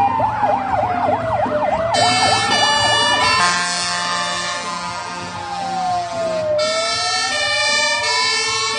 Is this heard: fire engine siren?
yes